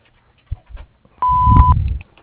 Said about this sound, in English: message after the tone.